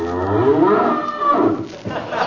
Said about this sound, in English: The lowing herd winds slowly o'er the lea.